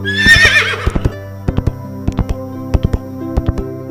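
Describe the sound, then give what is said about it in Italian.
A white horse gives a short, shrill whinny, leaps back, then gallops off into the thick of the woods, its hooves pounding in quick, uneven clusters of two and three beats that carry on steadily to the end. “Ma non appena la sua mano sfiorò il manto bianco del cavallo, questo fece un balzo indietro e fuggì al galoppo nel folto del bosco.”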